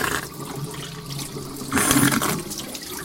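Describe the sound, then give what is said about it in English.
Water runs from a silver faucet and gurgles down the drain of a porcelain sink, a steady wash of sound that swells briefly into a louder rush before easing back. No voices. “He stares at the sink as the water trickles down the drain, his chest heaving up and down.”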